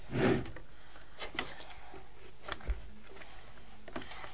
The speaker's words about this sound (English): Open that drawer there and get some pants out.